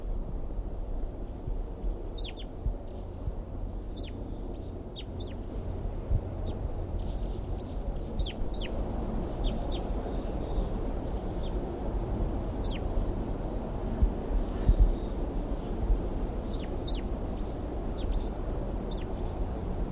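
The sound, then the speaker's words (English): Crossbills give short, sharp alarm calls, repeated in scattered bursts, along with a soft whisper song, over a constant low rumble of wind. No one speaks. “It's recording the crossbills now, giving alarm calls and a soft whisper song.”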